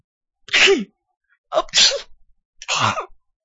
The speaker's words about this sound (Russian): Лен глубоко вздохнул и захлебнулся безудержным, непрерывным чиханием.